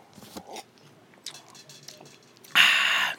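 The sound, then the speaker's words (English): Quiet mouth clicks and lip sounds, then a loud, breathy slurp near the end as someone takes a sip of a fresh pour of whiskey, with no talking. “I'm gonna take a sip.”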